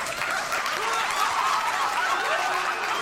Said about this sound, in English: Now, how do you do applause here? Cheering. Yeah. And then there's audience laughter. Yeah. Do that. Here. Can you do multiple? Can you do it simultaneous? Yeah. Do them. Keep doing them. I love that.